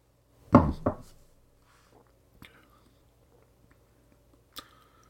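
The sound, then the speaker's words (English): A couple of soft slurping sips of Talisker 10 Scotch whisky from a glass in quick succession, then quiet, with two brief, sharp clinks like the glass being set down on a hard surface. “So at this point, we'll take another sip of our Talisker here.”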